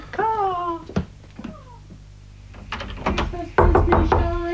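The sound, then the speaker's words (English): Someone knocks on a locked door several times in uneven bursts, sharp, after a cat's drawn-out meow at the start; a muffled voice comes in near the end. “Door's locked.”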